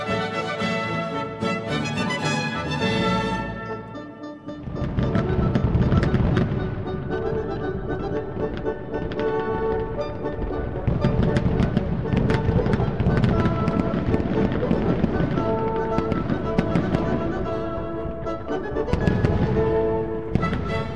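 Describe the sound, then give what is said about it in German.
A large fireworks display, set off in a hotel garden for an annual regional festival, bursts overhead in a dense, nonstop barrage of loud booms and crackles, after a few seconds of steady tonal sound at the start. “Der Hotelportier klärt uns auf, dass das riesige Feuerwerk, das hinten im Hotelgarten über unseren Köpfen hochging, aus Anlass des jährlichen Regionalfests gezündet wurde.”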